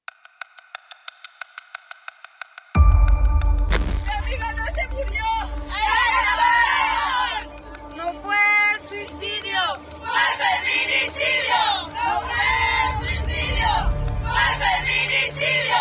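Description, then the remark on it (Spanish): A short run of steady electronic beeps gives way to a loud crowd of friends, family and supporters shouting chants together about the case of Ariadna Fernanda López, missing since 30 October. Voices rise and fall in rhythmic bursts over a constant roar. “Así gritaron los amigos, familiares y gente solidaria con el caso de Ariadna Fernanda López, cuyas fotografías han circulado en internet desde su desaparición el pasado 30 de octubre.”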